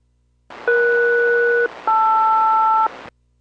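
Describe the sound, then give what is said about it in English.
Two steady dual-tone bursts, each about a second long with a short gap between, play over a bed of radio hiss: an aircraft SELCAL calling signal for a Boeing aircraft, code Echo Sierra Lima Romeo, sent during a radio check with Boeing radio at Everett, loud and clear with no voices. “Good cell call check, Boeing 772, number 2 coming up.”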